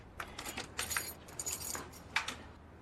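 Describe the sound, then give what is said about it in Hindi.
Metal keys jingle and clink in several quick, bright bursts, with short pauses between the shakes and no talking, as keys are used to open a safe. “हम सिर्फ इतना चाहते कि जब हम ये तिजोरी खोल रहे तो आप यहाँ खड़ी हो ताकि कल हमारे लिए फिर से कोई नई बात ना बनाए कि हमने पता नहीं तिजोरी से क्या क्या निकाल लिया।”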